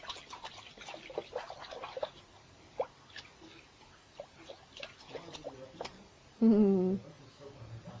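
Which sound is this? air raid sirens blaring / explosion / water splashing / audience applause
water splashing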